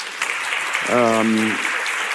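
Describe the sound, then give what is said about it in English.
Steady audience applause, a dense wash of many hands clapping that runs through the whole stretch, with a brief voiced sound rising above it midway. “And don't applaud me, it's absolutely normal.”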